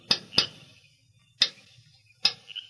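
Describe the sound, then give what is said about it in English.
At night, a man raps a faint signal on the bars of a barred window at the rear of a town jail: four sharp metallic raps, a quick pair followed by two spaced single taps, each ringing briefly. Moderately quiet, with no voices. “Then, satisfied that his movements were unseen, he rapped a faint signal on the bars.”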